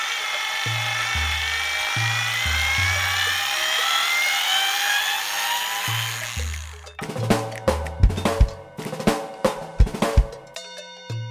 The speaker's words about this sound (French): C'était une visseuse.